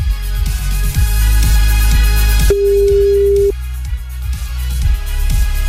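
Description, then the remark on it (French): A single steady telephone ringback tone of an outgoing call sounds for about a second, a clear mid-pitched hum over pulsing background music with a thumping bass beat and no talking. “Trois sonneries, j'aime pas, ça me stresse.”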